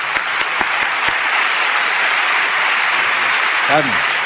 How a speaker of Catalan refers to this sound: que és la directora del videoclip, i vull que l'aplaudiu, que és una crac.